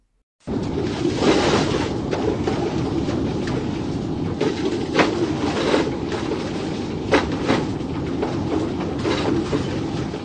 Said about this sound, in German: Mit einem großen Wohnmobil auf diesen super ruckeligen Straßen zu fahren. Es war wirklich zum Teil ohrenbetäubend.